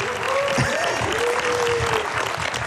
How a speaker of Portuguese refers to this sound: Palmas para a Rita.